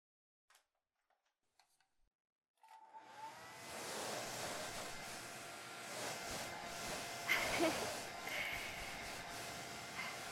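A few faint clicks, then a hair dryer switches on and blows with a steady whooshing roar and low motor hum that continues to the end, drying a person's hair.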